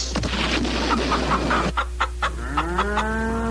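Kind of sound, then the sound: bird, hen clucking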